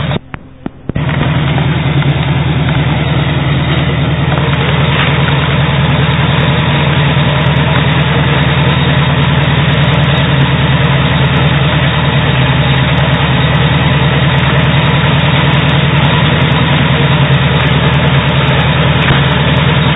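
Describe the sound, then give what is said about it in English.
A sawmill engine runs steadily, a loud, constant low drone with a throbbing rumble that holds unbroken for the whole stretch after a brief stutter at the start. No one speaks. “There's probably sawmilling 100 years ago was just about the same thing as this, except that would have been a steam engine, an old power engine.”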